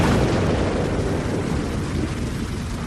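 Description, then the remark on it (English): Lightning strikes a beech tree, splitting it and setting it ablaze, with a loud, sustained roar of rumbling, crackling noise that fills the full three seconds at steady intensity, fading only slightly toward the end. No voices are heard. “The lightning has struck it, Will.”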